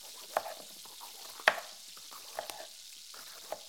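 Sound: sausages sizzling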